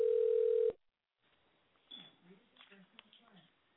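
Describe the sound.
A loud, steady telephone tone holds for under a second and cuts off as a radio show host phones a guest, then after a brief silence a muffled, thin voice starts talking as if over the line.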